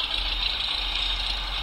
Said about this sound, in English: We got a Cessna coming in, so if it gets hard to hear me, I apologize.